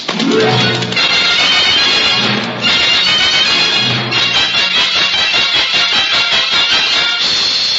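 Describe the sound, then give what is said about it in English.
A horse whinnies loudly a few times, then its hooves break into a steady, rapid gallop that pounds on strong until the end, with no one speaking. “Well, it just so happens I'm not a ghost man, and I do need a horse. Make him go fast”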